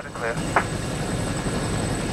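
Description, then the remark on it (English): A rescue helicopter hovers over a ship at sea, its rotors making a steady, loud, wind-like roar throughout, with a couple of brief whistling tones near the start, as a crewman aboard pulls on a safety harness. “A crewman in the helicopter pulls on a safety harness.”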